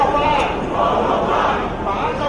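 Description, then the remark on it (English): Hundreds of thousands of street protesters in Hong Kong, showing dissatisfaction with the way China is trying to run the city, roar and shout together in a dense, continuous wall of voices, loud and steady throughout, with no single speaker standing out. “The sounds of protests this weekend in Hong Kong, hundreds of thousands came out into the streets there to show their dissatisfaction with the way China is trying to run the city.”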